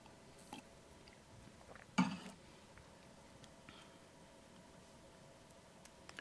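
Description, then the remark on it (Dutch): Someone takes a sip of water during a software development presentation: soft mouth and swallowing noises, one brief louder clunk like a glass being handled, then faint clicks in near silence. “Een slokje water.”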